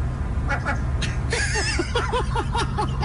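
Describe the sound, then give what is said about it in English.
A seagull gives a rapid run of harsh, repeated squawking calls, loud, with a higher wailing cry partway through, over a steady low background rumble. “Listen? Listen to the seagull here.”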